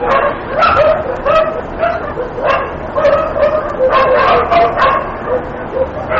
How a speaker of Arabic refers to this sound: لا يكاد يخلو شارع رئيسي أو فرعي في مدينة بعقوبة من الكلاب السائبة، حيث تقتات هذه الكلاب على النفايات الملقاة في الشوارع، وأمست مصدر قلق لدى الكثير من المواطنين، حيث أنها لا تسأم من النباح ليلا وتفترش الطرق والساحات للنوم نهارا.